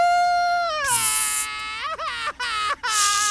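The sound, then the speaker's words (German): A voice imitates a baby's crying with a sustained, high wailing tone that breaks into a few short sobbing hiccups, loud, with no other talk. “Aber ich muss doch üben. Kleine Babys weinen ganz viel.”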